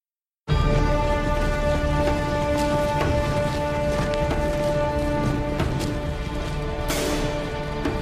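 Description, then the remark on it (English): Steady, heavy rain pours down in a film scene, a dense continuous hiss with scattered sharper drops and splashes, while a low sustained musical tone hums underneath throughout. “the turning point of the movie happens just about 5-6 minutes before the arc is officially complete and the rains come.”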